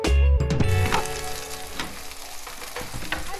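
Fried potatoes sizzle in a large pan in a home kitchen with a steady sizzle and crackle, opening with a brief clank of metal before the hissing settles into an even, continuous frying sound.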